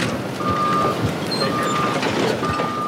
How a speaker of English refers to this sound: Dump trucks lumber by hauling trash.